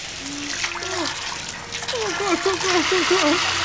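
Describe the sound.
Water gushes loudly and steadily from a burst pipe, a constant close rushing hiss, while voices call out over the noise.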